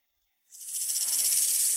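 After a brief silence, a burrowing owl lets out a loud, sustained rattlesnake-like hiss: harsh, high-pitched and buzzing with a rapid rattling flutter, heard alone with no talking.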